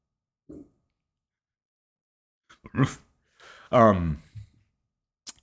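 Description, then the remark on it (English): A dog gives a couple of short, sharp barks in response to knocking on a table, with a low grunt beforehand and a brief pause between the louder yelps; no one speaks. “My dogs think it's someone at the front door.”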